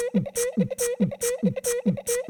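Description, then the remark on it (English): A steady, looping beatbox beat: deep mouth-made kicks alternating with crisp, hissy snare-like bursts and a buzzing hum, repeating at an even tempo, loud, with no talking. “Drop the motherfucking beatbox, dog.”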